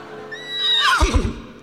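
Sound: horse neighing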